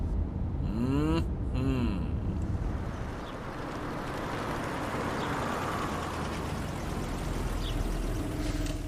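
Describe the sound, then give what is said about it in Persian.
A car engine hums steadily with broad rolling road noise as the vehicle eases along and slows while pulling into a parking spot, the rumble staying constant; a brief tonal whine rises near the start. “برو تو این پارک.”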